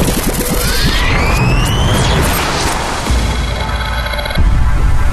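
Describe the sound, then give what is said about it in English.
A riser and wipe sound effect: loud noisy sweeps with several tones gliding upward, swelling over a rumbling low end, then a sharp swish into a steady wash of noise. “Risers and wipes. Wipe.”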